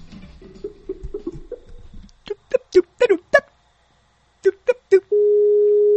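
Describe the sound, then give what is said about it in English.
A telephone line sounds: a run of short, sharp electronic beeps like keypad dialing, then a steady, loud telephone tone that holds to the end, after a brief murmur of background sound. “As the phone rings.”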